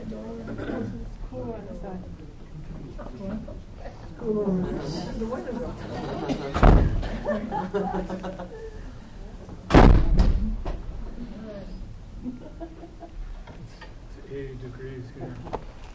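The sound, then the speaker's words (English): Two doors shut a few seconds apart, each a firm, fairly loud thud, while voices murmur in the background throughout. “Can I close those doors?”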